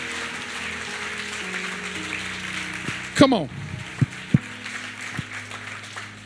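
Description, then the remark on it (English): Steady audience clapping in a church, celebrating people getting saved, forms a dense, even patter, while a man speaks over it with a few sharp louder accents cutting through. “We can clap better than that, 4 points.”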